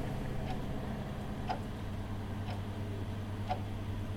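clock ticking

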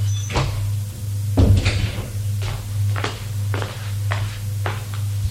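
door opening

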